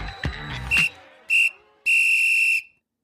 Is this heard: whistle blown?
yes